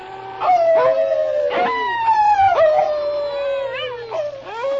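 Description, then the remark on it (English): A dog named King, on command, imitates a wolf with a long, wolf-like howl, its pitch wavering and sliding downward in drawn-out wails, fairly loud with no talking. “Start howling like a wolf.”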